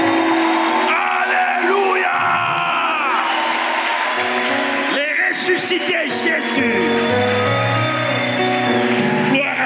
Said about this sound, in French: Est-ce qu'on peut l'acclamer, l'agneau immolé? Est-ce qu'on peut pousser les cris de joie au maximum? Est-ce que quelqu'un peut se lever et acclamer le roi de rois?